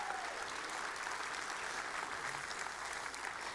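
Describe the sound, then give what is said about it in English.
An audience claps steadily for a group of teenagers at a church Disciple Now weekend, a dense wash of many hands patting at once with no pauses, holding an even level for a few seconds without anyone speaking. “So why don't y'all give them a round of applause.”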